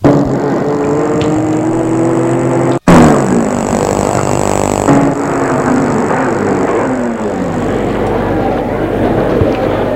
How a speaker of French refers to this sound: Cliff a réussi à se garer sa voiture. Ils sortent de voiture.